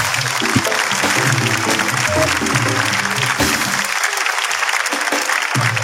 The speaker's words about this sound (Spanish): Oye, un aplauso para ella, muchas gracias.